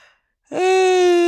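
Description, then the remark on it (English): A loud voiced yawn from a person swells in abruptly after a moment of quiet and holds as a steady, drawn-out tone right into the microphone. “stop yawning into the microphone.”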